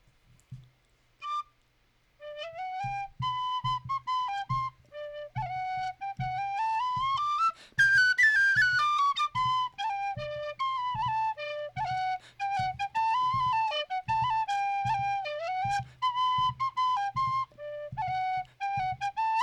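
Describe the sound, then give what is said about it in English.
A lively Irish dance tune plays solo on tin whistle, with quick ornamented notes and a bright, breathy tone, accompanied by a steady low tapping beat that keeps dance time throughout. “Now I wonder if we could prevail on you to play us something on... your tin whistle.”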